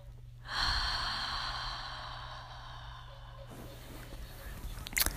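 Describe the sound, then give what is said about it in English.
A long, deep inhale rushes in for about three seconds, then gives way to a softer, airy exhale, the fifth breath of a breathing exercise. No one speaks. “Breath number 5, guys. Inhale. Exhale.”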